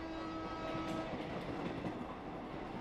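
train running on rails

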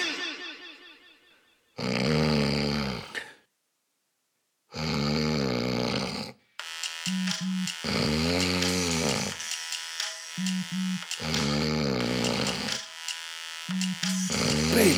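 loud snoring

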